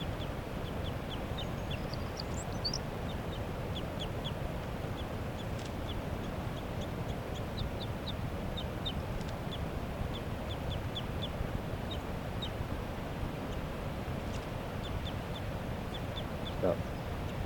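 A caught wild female bird flaps steadily and rustles, and over that busy noise come repeated short, high chirping calls in quick clusters, with brief pauses between bursts.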